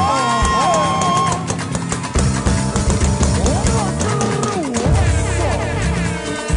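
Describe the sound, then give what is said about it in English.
A loud crowd screams and cheers continuously in answer to a singer asking them to scream, many overlapping voices whooping and yelling at once, filling the whole stretch with sustained, excited noise. “If you know so your level don't change, let me hear you scream.”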